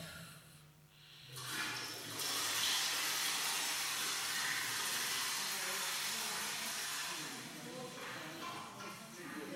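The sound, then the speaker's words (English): A toilet flushes: after a brief low rumble, a loud, steady rush of water roars for several seconds, then tapers slightly and swells again near the end. “That sounds exactly like a toilet flushing, doesn't it? And it was a toilet flushing.”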